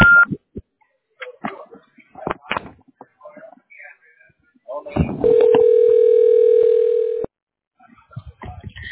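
A Google Voice phone call rings while connecting: a few clicks and brief beeps, then one steady, loud ringback tone that holds for about two seconds before cutting off abruptly.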